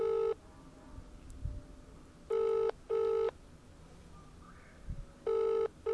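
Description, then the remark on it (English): A telephone ringback tone on an outgoing call, loud double buzzing rings repeating with steady pauses between pairs, over a faint background hiss and no talking. “It's calling... Oh, it's ringing.”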